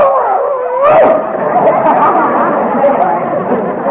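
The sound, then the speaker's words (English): A dog named Peanut howls in a drawn-out, wavering tone, then breaks into a run of excited yips and barks, loud, over a busy murmur of background voices. “Davis, we can't afford to feed this dog.”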